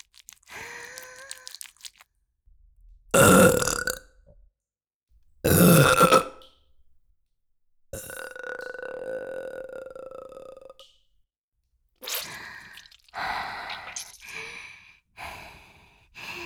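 A series of loud, close burps with short pauses between them, including two sharp bursts and one long, drawn-out croaking belch, followed by several quicker, rougher burps.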